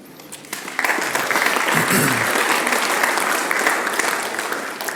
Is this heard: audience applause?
yes